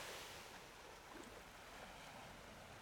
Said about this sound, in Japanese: この海の音っていいよね。